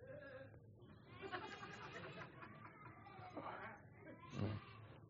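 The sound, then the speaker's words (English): Several people imitate sheep bleating in a wavering, overlapping chorus, rising and falling over a few seconds with a louder burst near the end, lively. “Let's see, who can give me a good sheep sound?”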